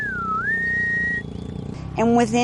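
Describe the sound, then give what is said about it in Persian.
A loud human whistle command from a trainer to a herding dog, like the long, sharp whistle used to tell the dog to lie down: a clear tone that dips, slides upward and holds steady for about a second, then a short, rougher call closes it. “یه چیزای تقریبا استانداردی وجود داره، مثل سوت زدن برای خواب. یه سوت بلند و شدید.”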